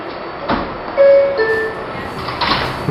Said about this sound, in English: Okay, so we're obviously in the train and it's pulling out of the station. Where are we, …? We're in a subway in New York City, underneath the streets of Manhattan.